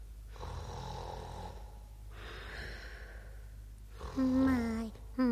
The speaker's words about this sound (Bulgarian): Само една вещица може да хърка така в възглавницата.